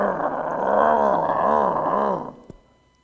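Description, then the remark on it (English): A loud, snarling growl like an angry dog, held for about two seconds with a wavering, rolling pitch, then cut off, followed by a single sharp click. “He growls at them like a mad dog with rabies.”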